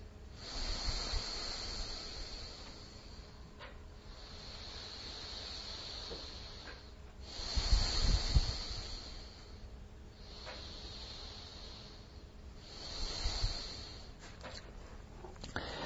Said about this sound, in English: You might even like to take a few good breathing doses in and out.